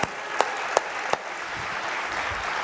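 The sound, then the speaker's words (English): A church audience claps for Jesus: a few sharp, evenly spaced claps ring out, then blend into a steady, dense wash of applause that carries on at moderate loudness with no talking. “Let's give Jesus one more big hallelujah and a hand clap.”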